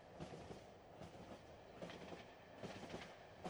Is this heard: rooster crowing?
no